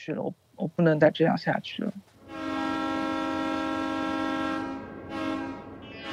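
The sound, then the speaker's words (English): A voice speaks briefly, then a passenger train's horn blares in a long, loud, steady blast that dips for a moment near the end and sounds again. “So she hopped on a train, and 48 hours later, she arrived in Xinjiang, China's far west.”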